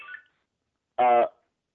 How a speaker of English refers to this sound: I hear noises. That's my cell phone.